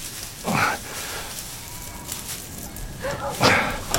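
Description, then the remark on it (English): A sheepdog herding a flock of sheep barks a few times outdoors, one sharp bark early and a quick pair near the end, against a steady open-air background. “Keep the flock away there. Good dog.”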